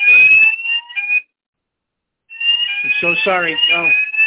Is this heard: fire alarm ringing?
yes